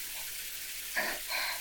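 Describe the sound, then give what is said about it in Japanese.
A shower is turned on to wash the body before a hot-spring bath, running with a steady, soft hiss of spraying warm water, then surging louder twice in quick succession, the second burst lasting longer, with no voices. “まずはシャワーを出して、”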